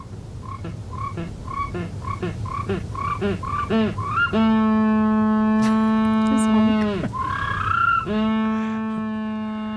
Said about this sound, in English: That is a Humboldt penguin. It is, yeah, yeah. It's a species of penguin you'll encounter on any trip to Dublin Zoo, but you can actually watch them on a cam that's in there.